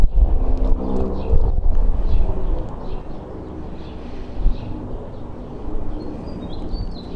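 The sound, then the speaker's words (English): A helicopter drones overhead with a steady, low rumble that swells early and then eases off slightly, while faint bird chirps flicker in the background outdoors. “Helicopter. At least that's what it sounds like.”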